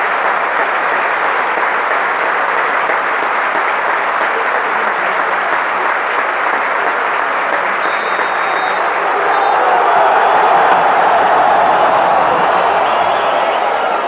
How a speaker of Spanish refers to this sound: Goles atajadas, aplausos y silbidos del partido del día.